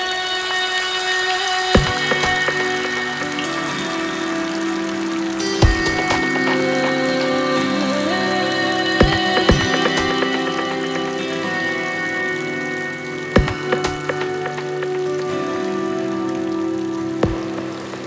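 Steady rain patters throughout, layered under sustained, mellow musical tones, with a few sharper splashes or knocks standing out every few seconds. No one speaks.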